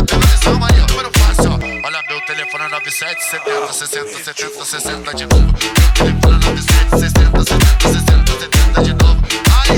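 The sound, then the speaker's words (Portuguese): A phone ringtone chimes briefly in the middle of a loud, pounding dance beat, its bright electronic tones sitting over heavy, rhythmic bass hits. “Alguém ligou pra mim.”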